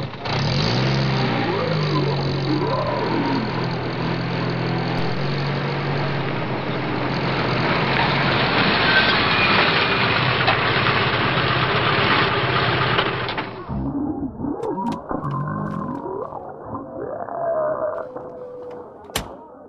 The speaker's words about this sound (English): Sergeant, bring the Humvee around.